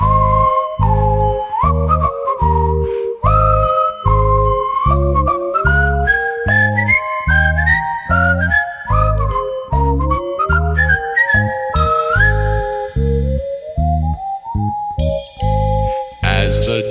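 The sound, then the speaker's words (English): A bright whistled melody glides up and down over a bouncy, steady instrumental accompaniment with a strong rhythmic bass, loud throughout with no voices singing. “Keep up your courage, raise your head, replace those frowns with smiles instead by starting in to whistle, whistle.”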